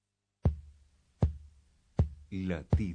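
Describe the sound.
A heartbeat sound effect: four deep, booming thumps at a slow, steady pace, loud, with a voice beginning to speak between and over the final beats.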